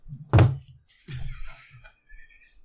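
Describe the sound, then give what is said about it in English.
A beer bottle is slammed down on a table with one loud thunk. It is followed by a second, softer knock and faint shuffling or murmuring. “Gio just slammed down his beer.”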